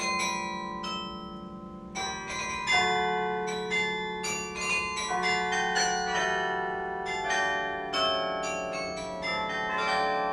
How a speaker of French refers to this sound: donc on a un peu l'impression que la musique se fait comme ça, sans musicien, quoi. Ce qui n'est pas le cas, évidemment. Quoi. Et donc il y a un peu cet aspect mystérieux, cet aspect un peu secret des cloches qui sonnent dans la tour du Beffroi.